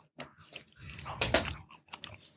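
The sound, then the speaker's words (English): Crunching and chewing of food, with a burst of loud, crackly crunches in the middle followed by softer, irregular chewing sounds; no talking. “If I never stop chewing, then the crawl it never gets on hot.”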